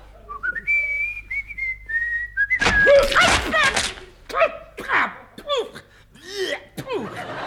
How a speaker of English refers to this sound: Now stand on one leg. Stand on one leg and whistle.